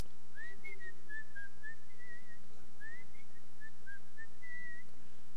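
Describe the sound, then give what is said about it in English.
A person whistles a lilting melody, the notes rising and gliding in short phrases, fairly clear but not loud, with a faint steady hum underneath and no talking. “Remember the Disney tune goes way back, Whistle While You Work? Whistle While You Work.”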